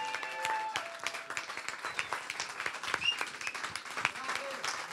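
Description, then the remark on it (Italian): An audience at a comedy show applauds the MC steadily, a dense spread of many overlapping claps with a few brief cheers and tones above, sustained at a moderate level throughout. “E il nostro MC, Dan Battista, fategli un applauso!”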